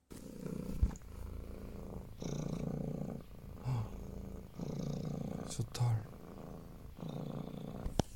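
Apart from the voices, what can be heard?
cat purring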